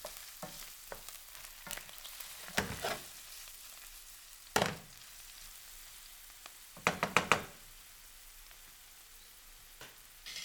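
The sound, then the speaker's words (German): Onions sizzle steadily in warm oil in a frying pan with a constant crackling hiss, while a wooden spoon turns and stirs them in a few loud, brief scraping bursts, without any talking. “Mit einem Holzlöffel wende ich die Zwiebeln in der Pfanne. Ich rühre mit dem Holzlöffel die Zwiebeln unter.”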